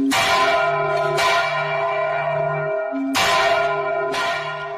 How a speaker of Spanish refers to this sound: Así sonaban en este caso las campanas de la Catedral de Palencia, al igual que muchas otras campanas.